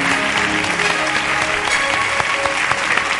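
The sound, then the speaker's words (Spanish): A church audience applauds God loudly and steadily at the end of a prayer, a dense wash of many hands clapping that fills the whole stretch without letting up. “Dele un aplauso fuerte a Dios.”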